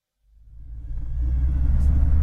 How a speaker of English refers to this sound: Traffic. It often backs up here, but it's not too bad at all this morning.